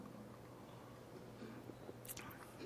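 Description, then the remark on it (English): Soft sips and swallows of water by a speaker addressing a Unitarian Universalist audience, with faint wet mouth noises over a low steady hum, ending in a brief louder slurp near the end. “I have to have a drink of water before I read it to you.”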